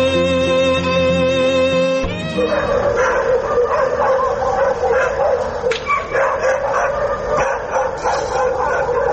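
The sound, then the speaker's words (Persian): Several stray dogs in the streets of Kabul, Afghanistan, barking and yelping at once in a loud, chaotic, continuous chorus, with no one talking; the first two seconds hold a steady harmonic tone before the barking starts. “موجودیت بیشمار سگ‌های ولگر در کوچه‌های شهر کابل نه تنها باعث آزار و اذیت شهریان کابل شده است، بلکه شماری از این افراد را با مشکلات زیادی مواجه ساخته است.”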